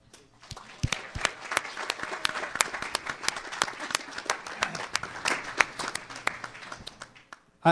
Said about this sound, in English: I keep hearing these women cheering, and I just wonder if they realize that I'm actually happily married.